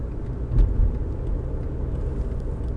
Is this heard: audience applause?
no